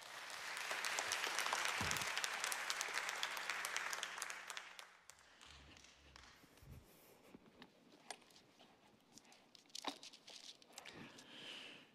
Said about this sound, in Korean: 오늘 나오셔서 여호와를 찾으라라는 제목의 말씀 증거하실 때 큰 은혜 받으시고 박수로 맞이하겠습니다.